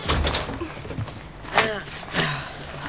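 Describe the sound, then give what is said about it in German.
A door is pushed shut with a couple of dull knocks and a brief creak, over a low room murmur and faint voices in the background. “Mach die Tür zu, Opa.”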